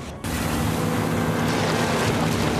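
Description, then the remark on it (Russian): A boat motor is started and kicks in abruptly after a brief pause as its propeller blades spin up, then runs loud, a steady droning rumble mixed with rushing, splashy noise that holds to the end. “Черт, заводи мотор! Скорее! Лопасти не крутятся! Нас пристрелят, пока они раскрутятся!”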